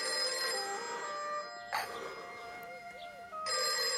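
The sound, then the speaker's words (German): A telephone rings with a bright, buzzing electronic bell tone in two bursts separated by a short gap, fairly loud, with no voices present. “Ein Telefon? Es gibt hier ein Telefon?”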